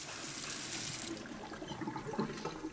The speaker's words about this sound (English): She splashes water on her face.